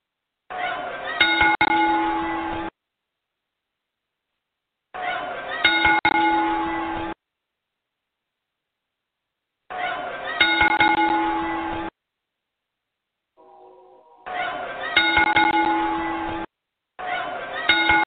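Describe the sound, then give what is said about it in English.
A wrestling ring bell clangs loudly in slow, evenly spaced strikes, five tolls heard here, each ringing out for about two seconds before silence and the next solemn strike, part of a ten-bell salute to the late ring announcer Howard Finkel. “we're going to open up with a special 10-belt toe to the late great”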